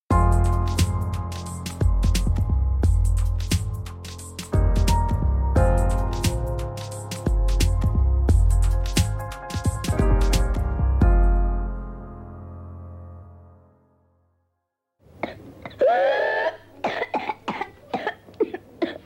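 Music plays, then fades into a brief silence. A child's whooping cough (pertussis) fit follows: a loud string of harsh, rapid coughs with a strained, whooping intake of breath.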